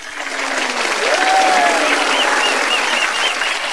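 Passengers in an airplane cabin burst into loud, sustained applause after a song is sung, a dense wash of clapping that holds steady throughout, with a brief whistle or cheer rising above it.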